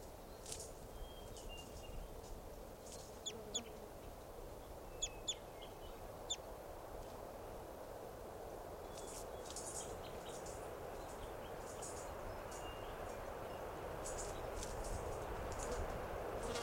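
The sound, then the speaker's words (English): A flock of about 10 or 12 type 2 birds perched atop a tall Douglas fir by a camp, calling: short, sharp high chips scattered irregularly, some in quick pairs, fairly faint over a steady low rumble of background noise. No one speaks. “Our type 2s must be about 10 or 12 birds.”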